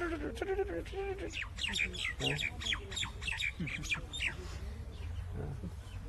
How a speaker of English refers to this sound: All the birds except for these parrots, they're always busy twittering away.